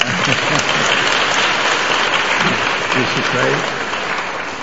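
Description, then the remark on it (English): A large group claps steadily and loudly throughout, a dense, continuous wash of hands with voices faintly audible beneath it, easing slightly toward the end. “Be happy and clap and sing.”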